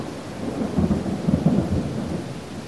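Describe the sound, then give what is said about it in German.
A short, heavy summer thunderstorm over a mountain village: deep, rolling thunder rumbles beneath a steady hiss of pouring rain, swelling slightly midway, with no voices. “Als ich das Kloster verlasse, entlädt sich die schwüle Sommerluft in einem kurzen und heftigen Gewitter über dem Bergdorf.”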